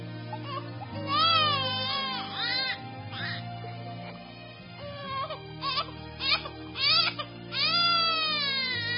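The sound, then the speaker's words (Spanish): A baby, just given a vaccine injection, wails loudly in repeated rising and falling bursts, with brief gasping pauses between cries, over a low steady background hum. “No, no, no se asusten. Ese era yo cuando me pincharon.”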